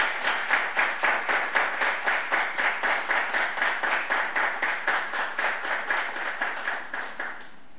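An audience claps in steady unison for a man receiving an honor at a ceremony, sharp rhythmic claps about three per second, sustained for several seconds before fading out at the end. No one speaks.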